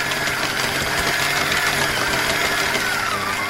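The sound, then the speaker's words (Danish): A food processor runs steadily, its motor giving a loud, continuous droning whir with a gritty, rattling texture as carrots are chopped, and no voices are heard over it. “Jeg tror, jeg må have købt en ny. Foodprocessor.”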